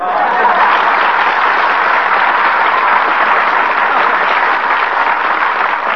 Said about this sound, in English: What did I say? What are they clapping for?